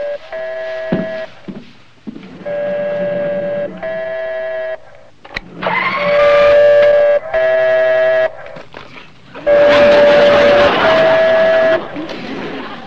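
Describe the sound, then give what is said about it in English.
A secret telephone hidden in an office rings over and over in steady, buzzy bursts about a second long, each a bright, harmonic-rich electronic tone with brief pauses between, growing louder in the later rings. “I'm sorry, that's my new secret phone.”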